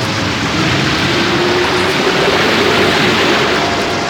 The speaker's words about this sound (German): Sieh doch, da kommt eine ganze Flutwelle. Aufpassen! Es schwemmt uns fort.